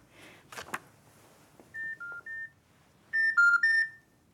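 A brief clatter as a woman picks up her telephone, then three short, steady dialing tones, followed by three louder, brighter beeps in quick succession, with no one speaking.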